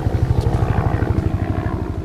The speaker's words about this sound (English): On this day, government soldiers scramble to catch up to the fleeing rebel column. Black Hawk helicopters circle the area as well.